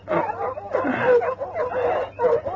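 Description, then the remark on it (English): Several dogs bark excitedly at night in a rapid, overlapping burst, the yaps and woofs fairly loud, continuing without pause for a couple of seconds. “What the dickens is the matter with the dogs?”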